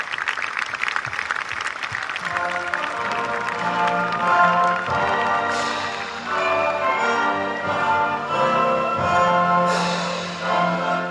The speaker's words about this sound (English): So can we please give our troops a round of applause? Thank you.